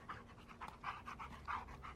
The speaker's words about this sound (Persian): صدای سگره میشنوی؟